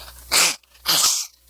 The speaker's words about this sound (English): And excuse me, I'm about to sneeze, so let me go ahead and blow my nose, which is a real embarrassment when you got a headset on.